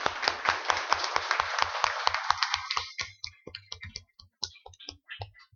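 A round of applause from a group: dense, steady clapping for about three seconds, then thinning into scattered, uneven claps that fade out. No voices.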